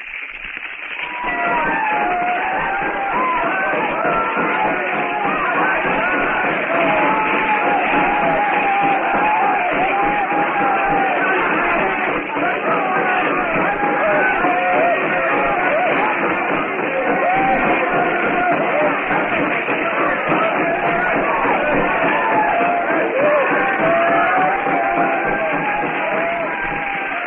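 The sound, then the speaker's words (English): A large crowd leaps and yells as it circles a blazing hut set on fire by a flaming arrow in a jungle compound, many excited voices overlapping into a steady, loud roar that holds its intensity for the whole stretch. “The blacks leap and yell as they circle the fire trap.”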